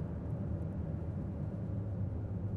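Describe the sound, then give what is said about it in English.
A car engine rumbles steadily at a low idle as the car is being turned off, fairly loud, with no voices and no clear change in level across the short stretch. “Car turning off.”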